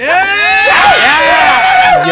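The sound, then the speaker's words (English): A loud crowd in a packed room screams and cheers together, many voices overlapping in rising and falling shrieks that fill the whole two seconds without a break. “I love the sound of, like, what? Screaming?”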